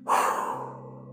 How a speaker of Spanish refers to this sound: Inhalen y vamos a contar 1, 2, 3, 4. Aguanten la respiración. 1, 2, 3, 4. Y exhalen súper fuerte.